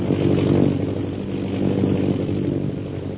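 An airplane circles overhead, its engine a steady, buzzing drone with a low harmonic hum that swells slightly and then holds even for a few seconds, with no voices.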